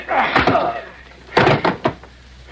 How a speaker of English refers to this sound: Just knocked him cold with my pistol butt.